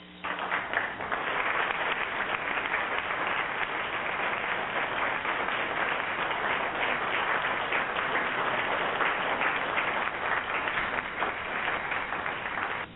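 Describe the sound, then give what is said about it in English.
A full round of applause from a crowd on a hip-hop radio show, dense and steady for about thirteen seconds at an even, fairly loud level, with no voices over it before it cuts off. “But again, a round of applause goes out to my guys.”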